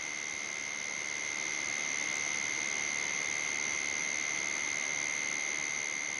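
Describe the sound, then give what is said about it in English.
Copiphora gorgonensis katydid mating tones: steady, unbroken high-pitched whines, two pure pitches sustained throughout over a bed of soft, even hiss. No voices, no pauses in the tone. “The white noise is thinning out into the tones produced by the Copiphora gorgonensis for mating.”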